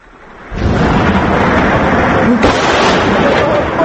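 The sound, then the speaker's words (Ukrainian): Artillery shelling of the city of Homs, Syria, from an amateur video: a loud, dense rumbling roar starts abruptly and holds steady, with a couple of sharper cracks or thuds breaking through the din. “Ці звуки обстрілу походять із любительського відеозапису, який, як стверджують, було знято сьогодні в Хомсі.”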